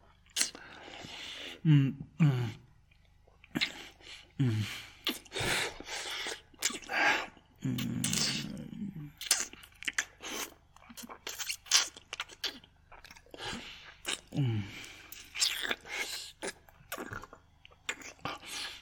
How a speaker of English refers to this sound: Does that please you? My tongue caressing between your soft, delicate folds. Softly licking, sucking, running the flat of my tongue along your entrance,